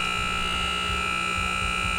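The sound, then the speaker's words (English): A shooting gallery target, a witch nestled between two clowns, sets off a loud, steady electric buzzer that drones without a break for the full two seconds, its harsh tone holding constant over a low rumble of background noise, with no voices. “The witch nestled between two clowns, Elizabeth's favorite, sets off a buzzer loud enough to make kids jump.”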